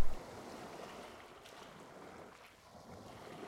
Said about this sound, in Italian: Il mare è calmo. Il catamarano solca le onde dell'Adriatico, lasciando dietro di sé una scia di schiuma bianca e di mistero. Con il vento a favore, la barca procede a gonfie vele in direzione del canale di Otranto.